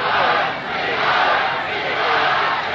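A large crowd chants and roars together, a dense, loud wall of voices that swells and dips slightly without pause, with no single speaker standing out.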